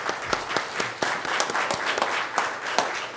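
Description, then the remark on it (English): A church audience applauds to show appreciation for newly welcomed members, a steady patter of many hands clapping at moderate loudness for a few seconds, with sharper individual claps standing out from the crowd's wash. “Why don't we just show our appreciation.”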